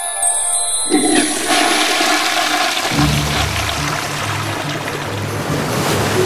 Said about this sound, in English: Professor Know-It-All, you flushed Goldie the goldfish down the toilet.